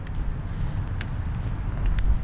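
A loud recycling truck rumbles outdoors on a very cold morning with a heavy, steady low-pitched drone, broken by a couple of brief sharp clicks or clanks about a second apart. No one speaks.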